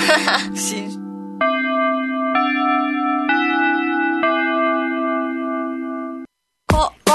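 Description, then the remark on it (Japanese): A four-note chime rings out in a descending-then-rising sequence of sustained, bell-like tones, clear and fairly loud, with brief talk before it and a short burst of voice right after. “もう一回飛ばしてしもた俺チャイム。”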